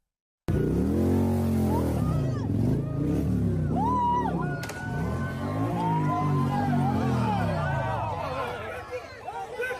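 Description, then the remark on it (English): Motorcycle engines rev loudly as the motorcycles rally in a street, pitch climbing and dropping in repeated bursts, with a murmur of crowd voices underneath throughout. “Now, what do you think that they're using those motorcycles for?”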